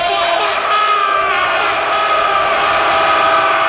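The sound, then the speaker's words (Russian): A small zoo creature, Krikusha, running back and forth in its cage, shrieks and whoops happily, a loud, continuous stream of shrill, excited cries, layered and unbroken for a few seconds with no talking. “Довольная Крикуша носится по клетке взад-вперед с довольными воплями вот такими.”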